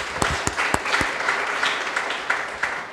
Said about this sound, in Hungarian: Tapsoljuk meg ezt a jó választ.